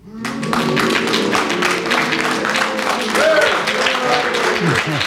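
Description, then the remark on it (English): An audience breaks into steady, loud applause to judge Derek Nimmo's challenge of deviation justified; the applause swells quickly and holds for several seconds, with a few scattered voices calling out over the dense clapping. “If you do, will you clap?”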